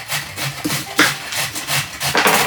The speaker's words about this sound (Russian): А я, пока он трет на терке морковку, займусь луком.